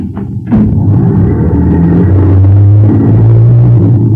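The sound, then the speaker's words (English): A bus engine kicks in with a thump and settles into a loud, low rumble, its pitch climbing steadily as it revs up and pulls away. “And when the bus started, the boy was on the road behind it, running with all his might, trying to beat it to school.”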